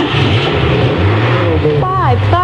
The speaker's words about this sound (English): Sounds of the Chevron Grand Prix.